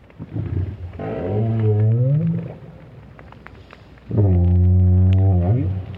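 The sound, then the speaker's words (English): Two long, moaning calls of a lone adult southern right whale echo underwater in the Southern Hemisphere, recorded by whale scientist Roger Payne with a hydrophone. The first call bends upward in pitch and the second is a loud steady drone, over a murky background hiss. “There's nothing wrong with this right whale, at least Roger Payne doesn't think so, but the renowned whale scientist was a bit perplexed by the sounds made by this lone adult.”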